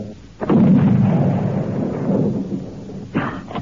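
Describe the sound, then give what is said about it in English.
A single loud gunshot, fired at a creature, cracks out and rolls into a long, booming rumble that slowly fades, followed by a second shorter burst of noise at the very end. No one speaks. “Then the thing looked up, and Tom fired.”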